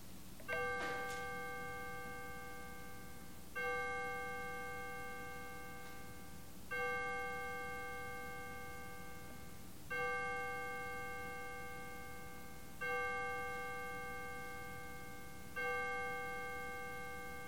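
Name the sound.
memorial bell tolling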